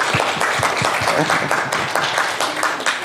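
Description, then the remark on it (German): A crowd applauds steadily, many hands clapping in a dense, continuous wash of sound at moderate loudness, with some voices faintly mixed in. “Vielleicht erstmal ein Applaus, oder?”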